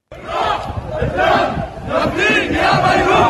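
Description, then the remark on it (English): A loud crowd in Beirut, Lebanon, with brooms on their shoulders, chants in unison as it marches to clean-up work after the explosion, shouting "We'll pay with our blood and soul for the sake of Beirut"; voices rise and fall in rhythmic bursts of shouted, tonal phrases without a break. “With brooms on their shoulders, crowds chanted as they marched to work.”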